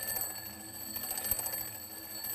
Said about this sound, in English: Now listen to the sound as the alarm clock moves away.